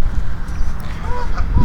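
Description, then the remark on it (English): A few short honks ring out from geese swimming beneath a wooden boardwalk, over heavy wind rumble and footsteps on the boards as someone walks along the boardwalk. “walking down the boardwalk, there's some geese swimming under me.”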